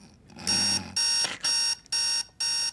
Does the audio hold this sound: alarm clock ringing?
yes